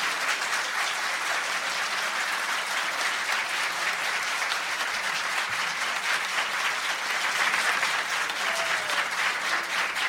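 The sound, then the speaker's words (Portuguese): Steady applause from an audience on the Eldorado radio program São Paulo de Todos os Tempos, for broadcaster Osmar Santos, many hands clapping in a dense, continuous patter at even loudness for about ten seconds, with no voices standing out. “E eu quero também fazer registro e pedir uma salva de palmas para o pai da matéria, Osmar Santos, que veio aqui.”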